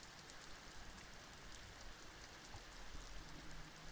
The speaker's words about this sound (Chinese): 而且外面还在下雨，下雨不是睡觉的最好天气吗？